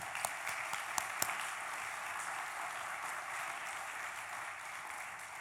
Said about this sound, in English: And so I'd like to give them a round of applause as well.